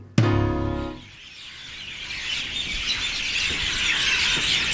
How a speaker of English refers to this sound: I can hear some mynas, some parrots, a lot of crows.